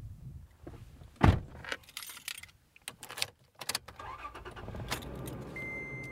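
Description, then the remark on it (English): A pickup truck door thumps shut near the start, keys jingle, then the engine starts up and settles into a steady idle hum with faint rattling before driving a few miles down a dirt road, with no one speaking. “pile into his pickup truck and drive a few miles down a dirt road to another type of wildlife corridor.”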